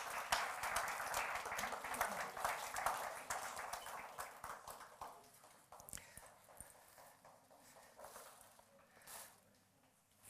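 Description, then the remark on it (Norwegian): An audience applauds in a steady burst of many hands clapping, loud and dense at first, then gradually thinning and fading over about ten seconds, with no voices. “Kan vi gir dem en klapp.”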